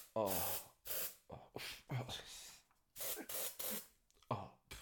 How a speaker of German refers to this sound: Boah, ich sprühe mich jetzt hier mal kurz mit Deo Live ein, weil ich schwitze.